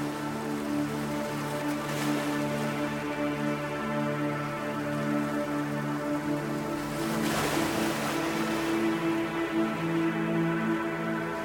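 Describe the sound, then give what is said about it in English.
Gentle ocean waves wash over sand in soft, rising swells, cresting twice over a steady background hum, with no one speaking. “The sound and feel of the water opens and clears your mind as you breathe in nourishment for your soul.”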